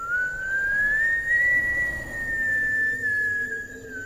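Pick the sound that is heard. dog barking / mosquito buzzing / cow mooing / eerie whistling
eerie whistling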